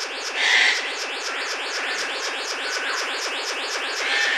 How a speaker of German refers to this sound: Liebe Leute, das ist ein Vogel. Kein sehr melodischer, ich weiß. Aber er heißt ja auch nicht Lerche oder Nachtigall, weil er so schön singt, sondern blauer Vogel, weil er so schön aussieht. Blauer Vogel, mehr nicht.